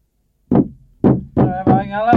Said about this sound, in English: Yes, but what's the banging noise? He's standing on a ladder and banging some nails into the wall with a hammer.